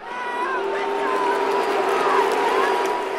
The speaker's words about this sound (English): That's the crowd at the TD Garden. They're not booing. They're showing their appreciation for another big save by Bruins goaltender Tuukka Rask.